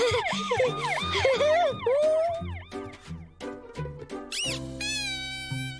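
A toy fire engine's electronic siren wails in rapid rising-and-falling sweeps, shifting between tones and ending on a steady warble, loud with a tinny, high-pitched quality.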